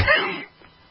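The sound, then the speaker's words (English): A single loud cough from a radio host on air bursts out and fades within half a second, followed by near silence. “There's no cough button. We don't have enough money for cough button.”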